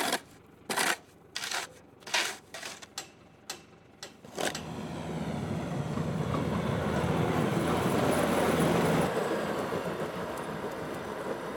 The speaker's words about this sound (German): ich bin nicht alleine, weil wir haben hier noch einen verrückten Traktorfahrer mit Ketten und so. Und der macht die Straße auch noch frei. Weil solange es hier so glitschig ist, passiert hier erstmal gar nichts.